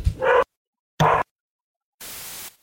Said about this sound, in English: And if my dogs can stop going crazy.